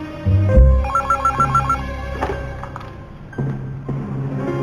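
A telephone ringing on an outgoing call to a doctor, the ringback tone pulsing in short repeated bursts over a low background hum, with a dull thump near the start and no speech.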